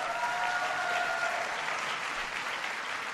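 A crowd applauds steadily, a dense wash of clapping that holds at an even level throughout, with a few faint whistles or cheers rising briefly in the first second.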